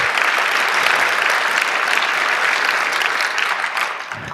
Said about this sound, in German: Auch hierfür einen Applaus.